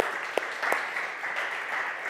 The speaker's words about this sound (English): They got married a couple weeks ago, so we can give them a round of applause for that.